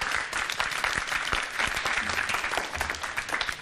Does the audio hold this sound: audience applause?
yes